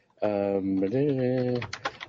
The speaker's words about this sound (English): I like to sing when I type. It goes better.